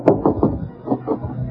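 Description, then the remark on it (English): A series of dull knocks on the door of Bing Crosby's hotel room, the Flanders, three close together and then two more after a short pause, fairly loud with no talking. “There's an autograph picture of Bill Ives hanging on the door. Well, I'll knock.”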